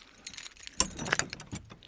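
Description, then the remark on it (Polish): Metal keys jingle and clink together in a busy rattle of short bright bursts as someone sorts through a bunch of keys to find the one that opens an old wooden post windmill; no one speaks. “Dobrze, zobaczymy, który to klucz.”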